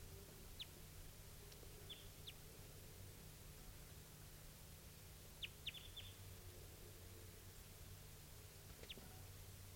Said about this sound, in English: Interesting variant in type 2. Stop. So recording here is that same type 2 bird, wild bird.